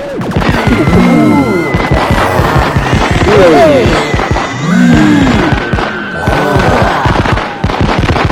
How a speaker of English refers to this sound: Look out! He's firing lasers from his eyes! Oh, and it's blowing up the gingerbread cottage.